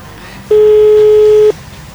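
A telephone ringback tone of an unanswered call to a woman in Varna sounds once: a steady, fairly loud electronic beep lasting about a second, then quiet line hiss. No one speaks.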